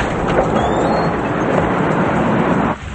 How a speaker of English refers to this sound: drives the truck away as Eve and Troy enter an alley